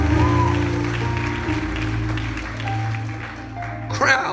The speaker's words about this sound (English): If you receive that, go ahead and clap your hands and give the Lord a mighty, mighty shout of praise.